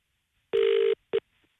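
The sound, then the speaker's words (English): A phone's ringback tone heard down the line: one steady, buzzy purr followed by the clipped start of a second, clear, with no talking. “I text him and said I'm ringing.”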